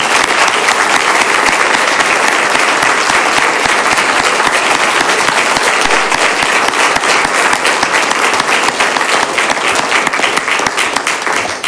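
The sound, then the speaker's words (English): Loud, sustained applause from an audience at a meeting, honoring Station 201 and the Police Department led by Chief Ramon Batista, a dense crackle of many hands clapping steadily for about twelve seconds without letting up, with no talking over it. “Let's please join me in giving everyone here a round of applause.”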